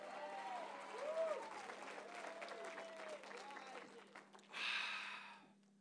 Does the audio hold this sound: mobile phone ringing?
no